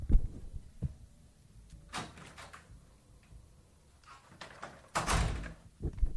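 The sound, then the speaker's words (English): A front door is opened and then shut again as a delivered dinner is collected, with a few knocking clunks and rattles of the latch, and a heavier thud near the end, with no one talking. “It's been dropped at the door.”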